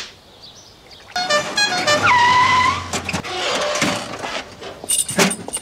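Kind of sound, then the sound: vehicle, car driving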